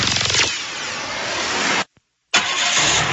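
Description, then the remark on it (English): A car engine cranks for a moment, then catches and roars steadily, cuts off abruptly into brief silence, and comes back running loudly. “Your engine is the heart of your vehicle.”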